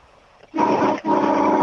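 A truck horn sounds two loud, brassy blasts after a brief quiet start: a half-second honk, a split-second break, then a longer steady blast that runs to the end.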